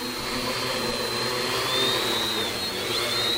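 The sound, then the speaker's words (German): A six-rotor drone takes off, whirring steadily and loudly with a broad buzzing roar and a high whine. The whine wavers and shifts in pitch because one of its six rotors is not reaching its proper speed, so the drone does not fly stably. No one speaks. “Das liegt daran, dass einer von den 6 Rotoren nicht genau die Drehzahl bringt, die er bringen sollte. Deswegen die Drohne nicht stabil fliegt.”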